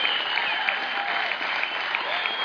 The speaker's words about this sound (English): So moms, we appreciate you. Let's have, if you're a mother here today, I would like you to stand up and let's give these moms a round of applause.